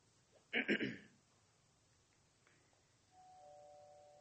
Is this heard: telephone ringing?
no